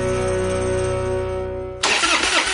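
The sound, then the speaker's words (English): A truck engine cranks with a steady, rhythmic whirring drone that fails to catch, then cuts to a loud burst of rough, hissing noise near the end. No one speaks. “When your truck won't start or your boat or ATV leaves you stranded far from home, that's not good.”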